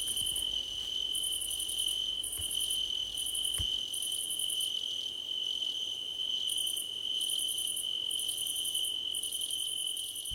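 Crickets chirp steadily and continuously, a high, shrill trill in pulsing bursts that fills the whole stretch, fairly loud, with no voices present.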